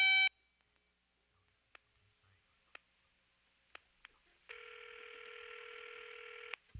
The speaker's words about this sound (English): Oh shit, one of them fake ass answer machines again. 1-800 fake ass answer machine.